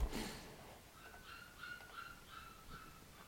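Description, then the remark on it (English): Puppies whimpering and crying in the background, a series of thin, high-pitched whines repeating every half second or so, faint, with no talking. “Those are my puppies crying in the background.”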